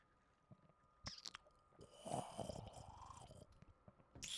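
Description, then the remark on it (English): A wet sip from a cup: a short slurp swelling in the middle, surrounded by soft mouth and lip noises, with no one talking. “Take a table sip, dude.”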